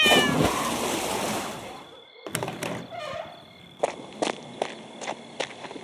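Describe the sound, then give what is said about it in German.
A cat lets out a brief, shrill yowl after being stepped on, over a noisy rush at the start, then a short pause gives way to a series of heavy footsteps and thuds. “Komm, meine Katze.”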